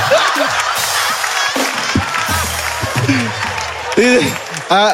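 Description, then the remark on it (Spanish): An audience on a show claps steadily throughout, a dense wash of applause with voices shouting and talking over it, fairly loud. “No, un aplauso.”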